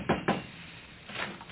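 household object, knocking on a door

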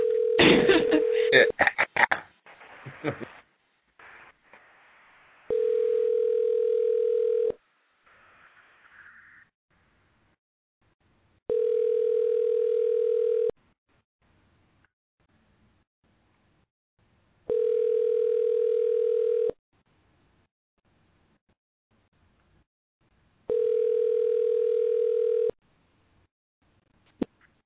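signal or alarm, outgoing phone call tone

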